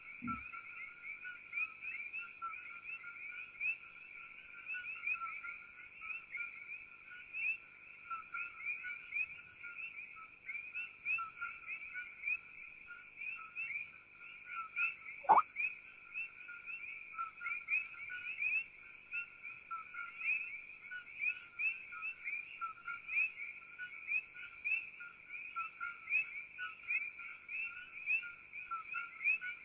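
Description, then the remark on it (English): A dense chorus of coqui frogs chirps nonstop, with high, overlapping two-note calls forming a steady shrill wall of sound. Nobody speaks, and a single brief click pops up midway. “These are called Koki frogs.”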